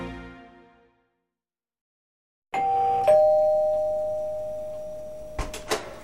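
A doorbell at an apartment door chimes a two-note ding-dong after a brief silence, rung by a senior assistant on her weekly Thursday visit; its tone rings out and slowly fades, followed by a couple of soft knocks or clicks near the end.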